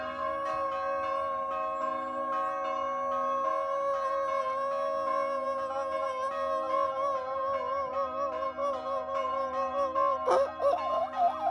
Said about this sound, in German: Hier zum Beispiel funken gerade mal ein paar Kirchenglocken in die Filmaufnahmen.